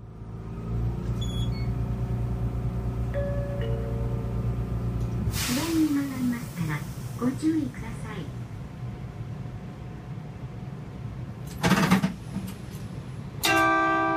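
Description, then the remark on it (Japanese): Inside a low-floor Hotram tram of the Toyohashi city line on the move: a quiet, steady motor hum and rolling rumble, a brief burst of wheel squeal and air hiss, with a recorded announcement voice heard over the ride. “でも今ね、低床車あちこち走ってますからね、なんか、そのうちこう、全国低床車周り、ね、低床車巡りみたいなことをね、しでそうな気がするんですけども、それでは豊橋市内線のホットラムの、音をお聞きください。”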